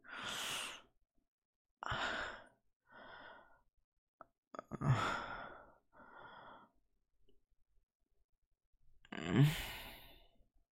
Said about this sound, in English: Sorry if I'm fucking breathing into the mic.